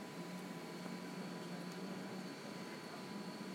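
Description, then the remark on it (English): A hospital infusion machine gives off a steady, low electrical hum with a faint high whine, broken by a few soft, irregular ticks. No one speaks. “Try and let you hear the machine.”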